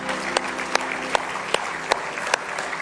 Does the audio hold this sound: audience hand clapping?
yes